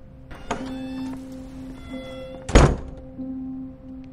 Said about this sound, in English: She leaves with a frown and shuts the door behind her.